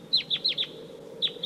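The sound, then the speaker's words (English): Wild birds calling: six sharp, high-pitched notes that drop slightly in pitch, four in a quick run, then a short pause and two more, over a steady low hum. “Sounds like maybe more wild birds are coming.”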